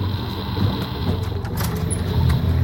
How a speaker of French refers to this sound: Un hélicoptère, vous le voyez? Oui, on le voit d'ici, il vole pas! Il est en train de survoler ma cabane, il se dirige droit vers la forêt!